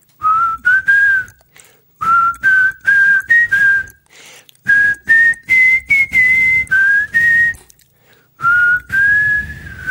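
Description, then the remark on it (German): Someone whistles the intro melody of a song alone, clear, in short phrased notes with brief pauses between them, the pitch rising and falling gently across several phrases. “Das … Intro dürfen pfeifen. Kannst du es noch pfeifen?”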